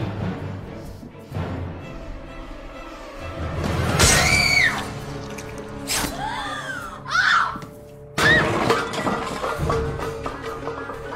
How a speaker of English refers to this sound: She like runs into the wall. Oh. She lets out a great scream moment too.